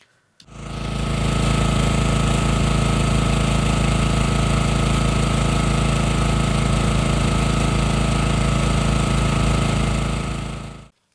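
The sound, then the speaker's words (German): Street traffic noise recorded by holding a phone out toward it: a loud, steady engine-like roar with a throbbing low rumble and a hissing upper layer, holding constant for about ten seconds before cutting off abruptly. No one speaks. “Ich habe da jetzt extra nochmal das Handy hingehalten, damit man so ein bisschen auch weiß, was man dann, wie eben die Straßengeräuschkulisse sich auch verändert.”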